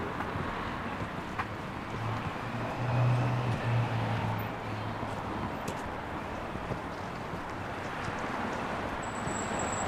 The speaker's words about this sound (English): Someone is walking right next to you. Can you hear your footsteps slowly synchronizing?